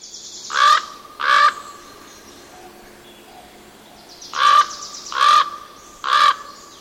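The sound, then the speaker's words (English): Harsh, hoarse croaking calls from a common raven, two near 0.7 and 1.3 seconds, then three more in quick succession after a pause, loud against a quiet background. “Raven in Northwest Coast Native mythology is the equivalent of coyote in the Southwest, a trickster, an agent of mischief and games.”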